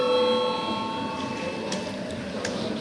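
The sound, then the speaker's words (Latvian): A parliament chamber bell rings to call a vote on a proposal, in a steady, sustained electric tone with bright overtones. It holds evenly throughout, with a few faint clicks and a low background murmur beneath it. “Lūdzu zvanu.”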